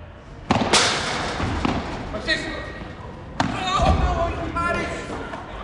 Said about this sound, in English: At lunchtime, you get lots of people playing paddle. That's a crossover between tennis and squash, and I got to see it in action.